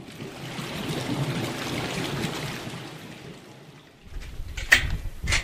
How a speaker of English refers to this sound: Anyway, that's our little creek coming out there.